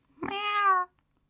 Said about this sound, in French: Rhee enlaça l'animal cuivré et le serra si fort que Mr. Smith émit un miaulement de protestation.